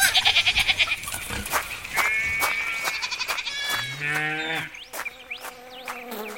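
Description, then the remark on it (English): A busy farmyard chorus of animals in the courtyard of Green Farm, with sheep bleating in wavering cries alongside a low bovine moo and rapid clucking of hens, several calls overlapping. “This is the courtyard. There are hens, donkeys, cows. And pigs too. And sheep.”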